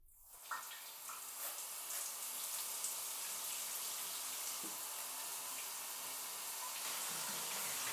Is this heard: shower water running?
yes